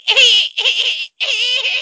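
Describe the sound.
A human voice imitates dolphin chatter in three loud, high-pitched squealing bursts with a brief gap before the last, sounding like rapid trilling squeaks.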